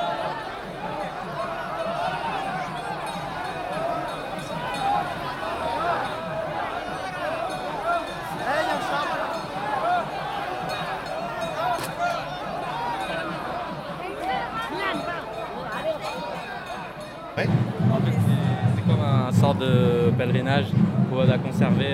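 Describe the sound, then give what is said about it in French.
Dense crowd hubbub from a street procession filling rue de la Chapelle behind a temple, with men and women pulling chariots of Ganesh and Muruga and a line of women fire carriers, many overlapping voices blending into a steady murmur, growing louder and heavier toward the end. “la procession occupe la rue de la Chapelle.”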